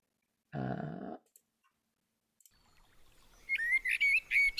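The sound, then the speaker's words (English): Bright, high bird chirps and trills enter midway and grow louder over a soft, calm musical backdrop, following a short low harmonic tone near the start and a brief quiet pause. “Those bird sounds are part of the music, in case anybody suddenly thinks that they've got a pigeon trapped in the flat.”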